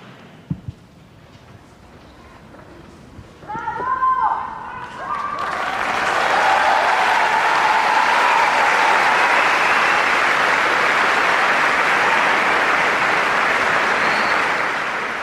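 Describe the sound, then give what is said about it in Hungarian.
A large crowd at a papal audience in the Paul VI Hall breaks into loud, sustained applause that ends the audience, swelling after a few seconds of murmuring voices and a sharp knock, then holding steady as a dense wash of clapping. “Kedves hallgatóink, ezzel a tapssal ér véget a mai napon is az audiencia 6. Pál teremben.”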